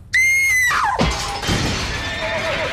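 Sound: glass window shattering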